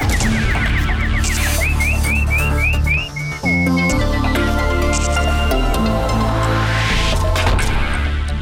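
A nightingale (bulbul) warbling song: a quick run of bright, rising chirps for about three seconds, then sustained whistled notes, all loud over a steady droning musical background.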